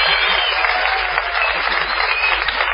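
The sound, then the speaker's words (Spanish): An audience bursts into a sustained ovation, dense steady clapping at a constant loud level for a few seconds, with no pauses. “Vamos, ya que estamos aquí, a prodigarle a Patricio Barton una ovación desmesurada”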